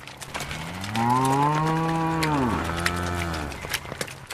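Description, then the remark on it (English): A single long, deep moo from a dairy cow being let out after morning milking swells and then bends downward in pitch, loud, with faint clattering and farmyard noise around it. “As Donald leaves the cows out after morning milking”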